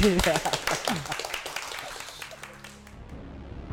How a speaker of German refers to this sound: Und danke an die Zuhörer, die sind fast alle schon wieder weg sind. Aber ich hoffe, sie hatten trotzdem alle Spaß. Und wir können ja mal so Alibi klatschen, ja?